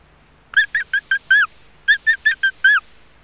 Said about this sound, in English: It's a mouse.